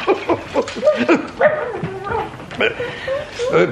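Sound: dog barking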